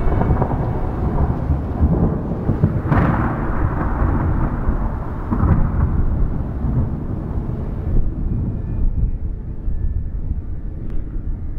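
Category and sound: nature, falling rain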